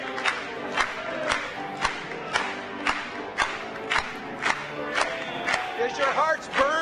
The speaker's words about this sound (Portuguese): Batamos palmas para ele.